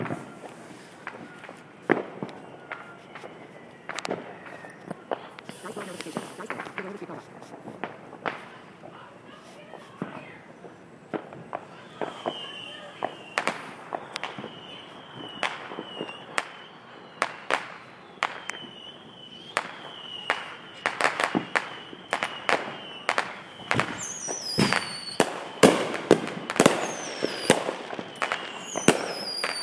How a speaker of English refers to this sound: this is recording number two, Neighborhood Fireworks. Let the fireworks speak for themselves here.